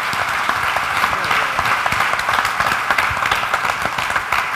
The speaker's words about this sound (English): I think maybe the FUD pilots deserve a round of applause because they stuck their ass out a hell of a lot farther north than I ever flew an EF-100.